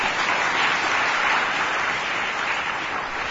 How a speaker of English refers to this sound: Yeah, well, you can clap.